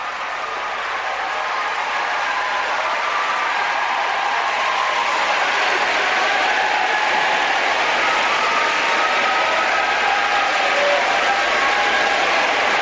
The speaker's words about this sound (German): Dieser Gruß natürlich wieder verbunden mit dem lautesten und frenetischsten Applaus.